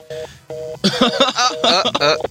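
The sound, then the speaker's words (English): A call to a cell phone connects, with two short steady ring tones followed by a louder, busier warbling ring that runs to the end. “Did you call his cell phone or something? Yeah, that was his cell phone.”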